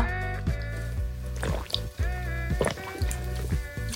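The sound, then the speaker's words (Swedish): Wet gulping as someone drinks water, with several distinct swallows spaced about half a second apart over a low steady hum, no talking. “Förlåt, jag måste bara dricka vatten.”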